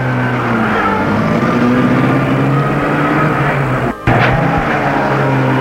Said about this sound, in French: La voiture passe devant lui. Il voit Boulou, les larmes aux yeux. Alexis fait celui qui ne le voit pas. La voiture file, Boulou a disparu.